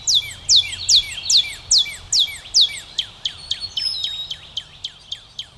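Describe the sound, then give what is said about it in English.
A redbird sings at dawn on a cold winter morning, repeating a clear, downward-slurred whistle about eight times in a steady rhythm, then speeding into quicker chips, with fainter birdsong of other birds in the background. “Those other birds don't have a chance, and neither do I. I just can't stay in bed.”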